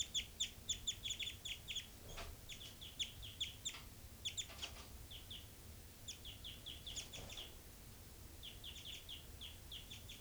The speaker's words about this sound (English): 5-9 flat calls. Three three there. Night flight calls.